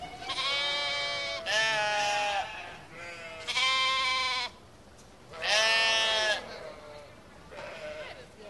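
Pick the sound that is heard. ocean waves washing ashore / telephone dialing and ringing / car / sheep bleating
sheep bleating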